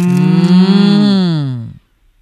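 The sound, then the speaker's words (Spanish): A single long, loud cow moo, clear, rising slightly then sagging in pitch before cutting off abruptly into silence. No one speaks. “Son vacas.”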